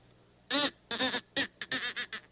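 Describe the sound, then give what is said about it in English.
A crow call is blown, giving loud, raspy imitation caws: three drawn-out calls followed by a quick run of shorter, choppy ones, close up with no talking. “Try out my crow call.”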